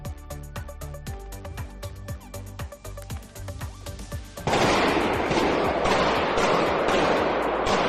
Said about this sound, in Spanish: Es el sonido de los disparos en un centro comercial al noroeste de Moscú en un ataque terrorista que ya ha dejado al menos 143 muertos.